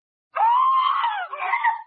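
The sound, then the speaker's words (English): A baby cries with a loud, high-pitched wail that holds for about a second, breaks briefly, then resumes in a shorter, wavering burst. No one speaks. “listen to that kid cry”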